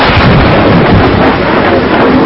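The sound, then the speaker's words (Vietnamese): A loud, sustained rumble of thunder roars with a dense, wind-like roar filling the whole stretch, heavy with no pauses or voices. “Một tiếng sấm khủng khiếp và gió bao trùm lấy họ.”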